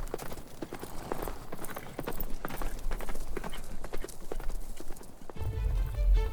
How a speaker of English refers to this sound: Once they're all on their horses, they kick hard into the animals' flanks and gallop south in the direction of Winchester.